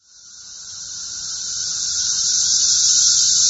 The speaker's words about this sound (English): The periodical cicadas are back. Over the past few weeks, across a wide swath of the eastern United States, these notoriously noisy insects have emerged by the billions from their long underground adolescence.